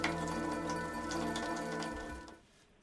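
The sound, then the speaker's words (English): A montage of different kinds of rain falling on different surfaces: steady rain patters and hisses, with scattered sharper drops over a sustained low hum, then the sound thins and fades away near the end. “You hear different kinds of rain dropping off different kinds of things in different kinds of situation.”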